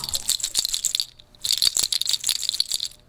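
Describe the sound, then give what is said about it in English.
Deer toe rattles on a gray-and-white striped beaded bag with 14-karat gold beads clatter in two shaken bursts separated by a brief pause, a dense, bright clicking with no voices. “But it's embellished, the bag itself is embellished with the toes of deer.”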